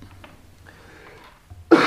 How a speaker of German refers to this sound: Jetzt muss ich mich kurz ein bisschen husten. Warte gleich nochmal.